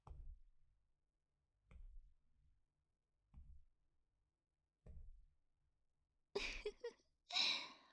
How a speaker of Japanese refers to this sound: 大きなあくび？眠くなっちゃったのかしら。